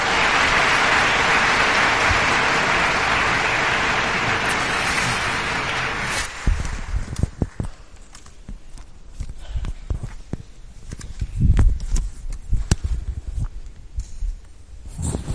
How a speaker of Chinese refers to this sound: 接下来我就把时间交给上帝的仆人唐崇荣牧师，我们以掌声欢迎上帝的仆人。